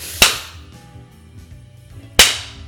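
Two sharp, loud whip strikes landing on bare buttocks as a whip is tested, about two seconds apart, each a crisp crack that fades quickly, with quiet low background between them and no talking.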